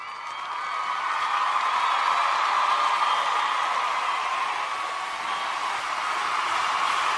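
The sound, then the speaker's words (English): A steady, dense wash of applause for award recipient Phil Mickelson runs for several seconds, many hands blending into a continuous hiss-like roar with no clear individual claps and no voices on top. “Phil, listen to that applause. It's deafening.”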